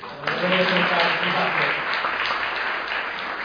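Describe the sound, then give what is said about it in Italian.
An audience applauds in a steady, dense wash of clapping that lasts the whole moment, with a voice speaking over it during the first half before the clapping carries on alone. “E lasciamo l'applauso.”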